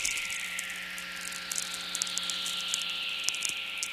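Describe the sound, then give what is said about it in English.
A lightning whistler picked up by a radio receiver: the electromagnetic pulse of a lightning bolt travels to the opposite hemisphere and back, and its hissy tone glides slowly downward for several seconds over steady static, with scattered sharp crackles and a low electrical hum underneath. “And in making this long trip, the frequency components are spread out, so you get this downward falling tone, like a sigh or a hiss.”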